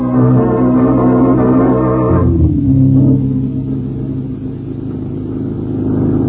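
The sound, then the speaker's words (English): A car engine revs loudly, its droning pitch dropping sharply partway through as if shifting gear, then settling into a steady, rumbling acceleration with no voices. “Hit the highway. Maybe we can catch him.”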